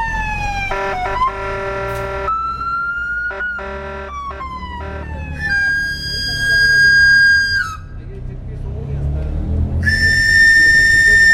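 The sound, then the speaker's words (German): A 60-year-old knife grinder in Mexico plays a pan flute to draw attention to himself: quick, shrill runs of gliding notes up and down the scale, repeated several times in bursts over a steady low rumble of street traffic. “In Mexiko macht er mit der Panflöte auf sich aufmerksam.”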